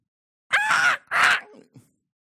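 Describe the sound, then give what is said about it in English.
Two harsh, raspy caws in quick succession, like a crow calling, followed by a faint trailing croak. The calls are loud, with no talking underneath. “So he looks at her and says, "It's a bird."”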